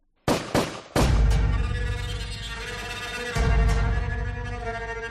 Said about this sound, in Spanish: y como ella se resistía, termina enfadándose y le pega 3 tiros, matándola al instante.